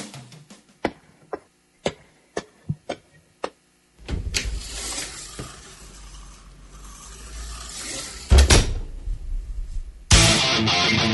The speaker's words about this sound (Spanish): abre la puerta de la sala de autopsia.